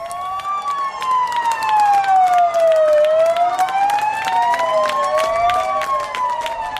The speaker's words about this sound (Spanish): Creo que tengo por aquí todavía en el portátil, a ver, el vídeo de las sirenas de la policía local sumándose a esos aplausos para agradecer el trabajo de los sanitarios. Aquí está.